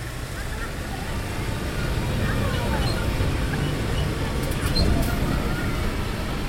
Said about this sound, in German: Die Badegäste werden drum auf Wagen gepackt. Ein Traktor zieht die Wagen auf einer asphaltierten Straße bis zum Ufer des Toten Meers.